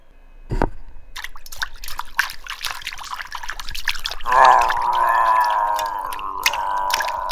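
Water drips and trickles in a steady patter of irregular splashes from the dark, hairy body of a creature about 4 feet tall slowly emerging from a river, then a louder sustained splashing rush joins in as it moves through the water, with no voices.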